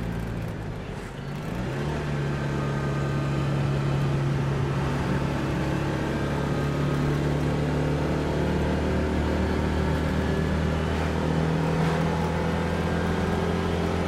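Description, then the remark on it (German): A small 2 PS car engine drones steadily, its low hum holding one labouring pitch with slight shifts as the car climbs a steep hill near Dübendorf, with the driver changing gears, in second gear at nearly 60 km/h; no one speaks. “Und dann geht es in Waldien, bergauf. Das 2 PS-Motor muss jetzt ziemlich arbeiten.”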